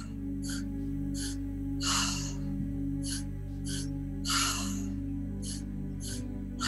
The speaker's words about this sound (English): So let's do it together. Inhale, lower belly, inhale, upper chest, out through the mouth. Inhale, inhale, exhale.